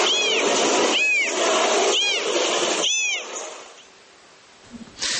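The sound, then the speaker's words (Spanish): An abandoned kitten meows repeatedly, three high, plaintive cries in quick succession, followed by quieter background noise and a faint soft sound at the end. “El gatito nos conmovió, realmente”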